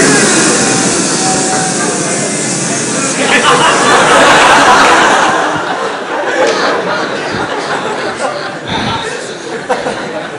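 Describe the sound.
A crowd of voices, asked to imitate bees, makes a loud, continuous buzzing drone. It swells to a peak midway, then thins out into scattered murmurs and chatter.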